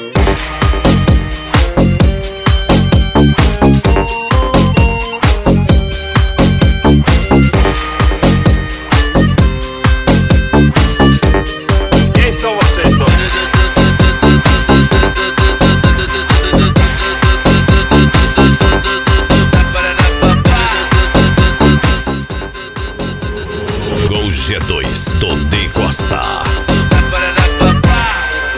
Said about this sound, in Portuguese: Gaiteiro, toca o negócio aí.